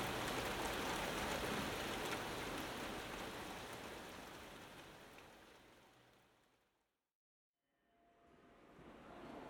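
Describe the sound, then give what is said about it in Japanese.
Steady, dense rain hisses loudly, gradually fading to a brief moment of silence before the downpour returns and swells again. No voices are heard. “このね、雨が降ってたからいつもの傘がお家に置いてあるままだったから、傘がないかなと思って持ってきたの。”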